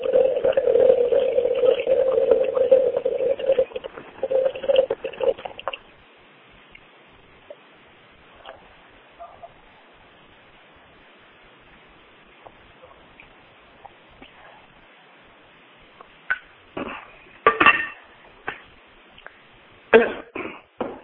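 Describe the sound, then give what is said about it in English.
Someone getting a drink of water: a steady pour for several seconds, then a long quiet stretch broken by a few short sounds like sips and a cough. “I have to get some water, excuse me here, I'm losing my voice.”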